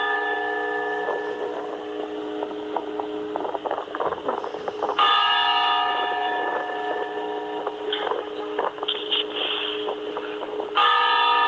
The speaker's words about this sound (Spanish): Bueno, vamos a oírlo como son los clamores de difunto, toque a muerto.